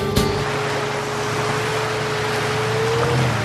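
A boat motors across the water toward Dongying in Matsu, Taiwan, its steady engine drone humming beneath a broad, continuous rush of wash and spray. The sound is fairly loud, with no one talking.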